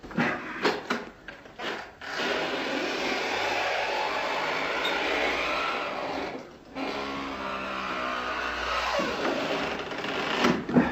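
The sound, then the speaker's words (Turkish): A long, loud grinding creak as an old door, its big padlock just pried loose with a screwdriver, is pushed open, with a few knocks and scrapes at the start and a sustained groaning drag that pauses briefly before continuing. “Amma gıcırdadı. Yandaki konaktan bile duymuşlardır.”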